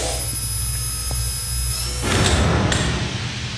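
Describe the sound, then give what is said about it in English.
A door slides shut with a rough, rumbling scrape that ends in a sharp clunk, set against a steady low mechanical hum and faint high whine. “I'll close the door and test the intercom.”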